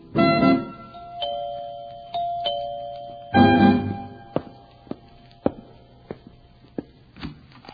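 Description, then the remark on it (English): A doorbell chimes a ding-dong pattern several times in a row, clear, followed by a series of sharp taps or knocks with no one speaking, rung by trick-or-treaters on Halloween. “Ring every doorbell on our street.”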